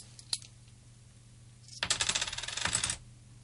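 Three coins held in one hand drop: a faint tap, then about a second of bright, jangling metallic clatter as the coins land and ring against each other. No one speaks.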